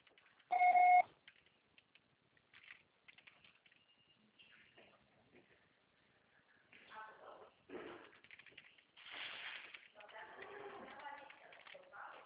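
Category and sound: signal or alarm, answering machine beep tone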